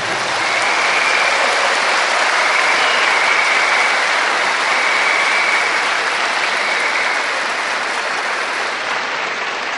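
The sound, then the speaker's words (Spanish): Sustained applause from an audience for the Virgin Mary, a dense, steady wash of many hands clapping at an even loudness for the whole stretch, with no voices standing out. “Hay unos que no le dieron el aplauso a la Virgen por estar escribiendo.”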